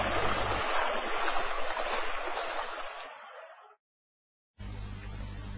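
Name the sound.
river rapids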